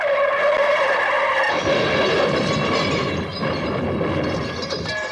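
Tires screech loudly in a long, high squeal, then a harsh, rumbling crash of impact noise takes over and fades slightly, with no voices; a dramatic car-accident sound in an anti-drunk-driving ad, heard as clinked glasses smash to pieces.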